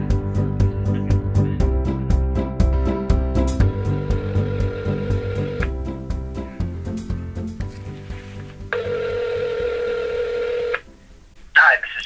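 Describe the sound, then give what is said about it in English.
Cell phone dialing tones play over a speakerphone in a library, a string of steady electronic beeps and tone blocks of varying pitch, fairly loud, ending with a short burst before the line connects for a fact-checking call. “I mean, we could do it on speakerphone in the library, on my cell phone.”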